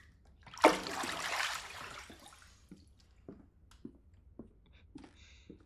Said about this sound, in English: I'm gonna get out of the bath now. Before you.